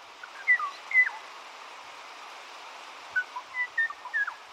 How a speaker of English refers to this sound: Without these recordings, the song of the Bachman's warbler and the Kauai O'o would fade from memory.